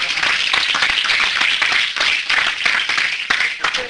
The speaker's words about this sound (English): It's all right to give God a hand clap of praise, because he was...